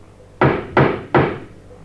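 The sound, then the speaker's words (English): Three firm knocks on the wooden door of a house, evenly spaced and fairly loud, each a sharp thud with a short ringing decay, with no voices. “Knock again.”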